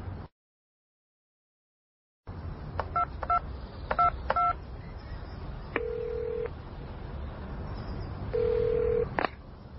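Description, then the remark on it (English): Several short electronic keypad beeps as a phone number is dialed in a phone box, each a paired tone, followed by two longer steady tones, over a low background rumble after a brief silence. “Emma and Mike are in a phone box.”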